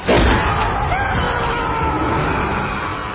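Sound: heavy vault door opening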